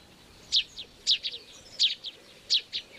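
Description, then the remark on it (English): Bright, high bird chirps repeat in short clusters, four distinct bursts spaced about half a second apart, each followed by a softer note, over a quiet outdoor background with no talking. “So now I open my window in the morning to really make the most of it, and I've started listening to CDs of birdsong as well, especially when I'm reflecting or doing some yoga.”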